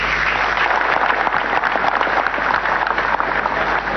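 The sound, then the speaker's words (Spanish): A crowd at a holy mass in Caacupé, Paraguay, applauds pilgrims from Brazil, Argentina, Uruguay and Bolivia steadily, dense overlapping claps forming a loud, continuous wash of sound that holds at an even level throughout, with no voices standing out. “Así también, hermanos peregrinos que se han llegado desde la hermana República Federativa del Brasil, desde Argentina, desde Uruguay y Bolivia, para todos ellos un fuerte y caluroso aplauso.”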